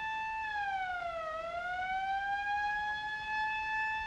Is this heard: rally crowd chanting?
no